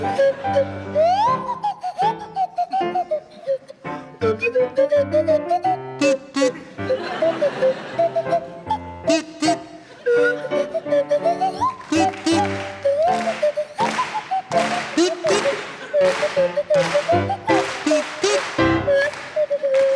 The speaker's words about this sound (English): I'd like you to provide us with a rendition of the Sailor's Hornpipe to feature Marcus Brigstock on the kazoo and Graham Garden on the Swanee Whistle.